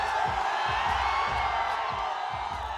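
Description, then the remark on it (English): An enormous crowd of fans in Mumbai roars steadily around Khan, who is moving through with a police escort, a dense wash of cheering and shouting voices with occasional whoops rising above it, sustained and loud throughout. “He has a police escort to maneuver through the enormous crowd.”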